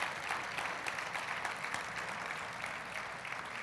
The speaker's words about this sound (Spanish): Hablando del Rey de Reyes, yo creo que él se merece un aplauso en esta mañana, ¿sí?